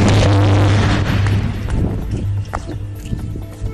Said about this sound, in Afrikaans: Terselfde tyd in die ooste van Tswane was daar 'n reuse ontploffing by die Inyala invoersubstasie. Dit het so geklink.